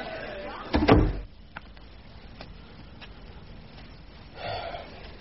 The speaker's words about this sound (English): Ah, door's open.